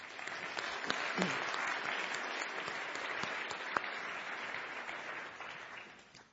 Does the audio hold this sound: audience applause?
yes